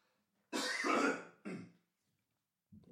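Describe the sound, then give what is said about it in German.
A loud cough to clear the throat, made once and away from the microphone: a harsh double burst followed by a shorter rasp, then a faint low grunt after a pause. No speech. “Mir hat jemand, eine Sängerin geschrieben, ich soll nicht räuspern, sondern einmal abhusten.”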